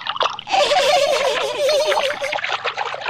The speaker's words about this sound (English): Splish, splash.